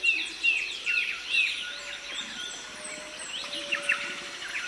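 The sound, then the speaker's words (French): In the Amazon rainforest, a small black-headed, long-legged insectivorous songbird, the lapie, repeats five or six loud, ringing, trumpeting notes in short phrases over a dense chorus of other birds and buzzing insects. “Les 5 ou 6 notes claironnantes sont celles de la petite oiseau à tête noire, la lapie.”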